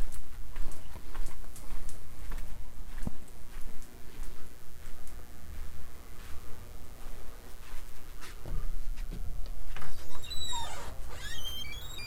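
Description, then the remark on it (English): A dog whimpers in short, high, thin whines near the end, after a stretch of scattered ticking and clicking noises with a low rumble underneath. “Good doggy, little buddy. Good boy.”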